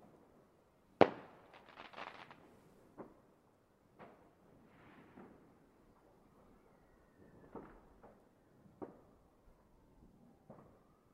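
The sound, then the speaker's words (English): Fireworks from a firework display pop and crackle at irregular intervals on a cold night, one sharper bang early on followed by softer, scattered bursts echoing faintly across an otherwise quiet night. “Firework display from here.”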